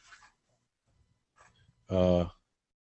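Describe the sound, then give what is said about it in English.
A single loud, abrupt sneeze bursts out near the end, sharp and voiced, after a soft breathy intake and a few faint clicks and rustles in otherwise quiet surroundings. “Bless you.”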